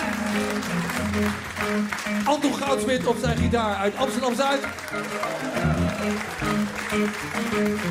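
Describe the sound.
An audience applauds steadily throughout, a dense wash of clapping that stays loud while a man speaks Dutch over it through a microphone, introducing the band's organist from Tilburg.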